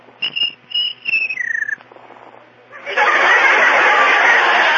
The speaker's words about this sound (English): Please, Mr. Cricket, George has work to do. Won't you please be quiet?